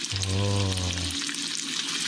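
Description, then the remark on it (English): Bacon sizzles steadily in a frying pan, a dense crackle throughout, with a low droning hum sounding over it for the first second. “It sounds like a rainstorm. But it's It is kind of hard. It's bacon. Sizzling bacon in.”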